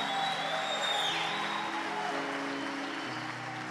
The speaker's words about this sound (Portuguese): Você pode celebrar o Senhor, aplaudir, gritar, ficar em pé.